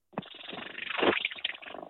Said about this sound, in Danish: Men lad os høre den lille kat.